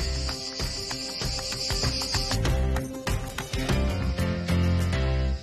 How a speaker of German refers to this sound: Übrigens nochmal ganz kurz zu den Zikaden. Die gibt es natürlich jetzt nicht nur in der Toskana, sondern in vielen mediterranen Ländern. Und es ist ja auch für viele so wirklich der Sound des Südens, oder?